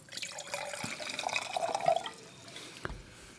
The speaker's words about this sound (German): Ja, ich würde sagen, ich suche mir mal ganz kurz eine Karaffe und schütte davon mal ein bisschen was in die Karaffe und guck mal, wie der sich entwickelt.